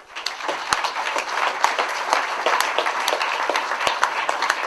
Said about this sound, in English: And finally, would you please give another round of applause for all the wonderful poets that we've heard tonight. Thank you very much.